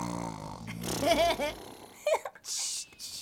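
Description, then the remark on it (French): A voice imitates the snore of Dragon, a character who has fallen asleep: a rumbling, throaty inhale followed by a couple of snorting breaths and a long, airy whistling exhale. “Et Dragon ronfle comme ça.”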